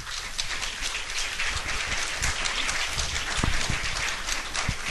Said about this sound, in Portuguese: Agradecemos então ao professor Antônio, a complementação, ao Thiago pela bela palestra, que merece sem dúvida uma boa salva de palmas.